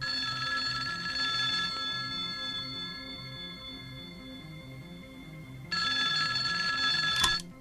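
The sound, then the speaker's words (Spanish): A telephone rings in an apartment with a bright, steady electronic tone, sustained high pitches over a pulsing lower pattern, growing louder near the end before a sharp click cuts it off. “En aquel instante, Sonó el teléfono.”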